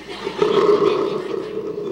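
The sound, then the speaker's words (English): A crowd of people from Salt in Maine screams together in one loud, sustained roar of many voices, holding steady for about two seconds without any break or talking. “I know that there are a bunch of people here from Salt in Maine, and I want to hear a Salt scream on 2, 1, 2.”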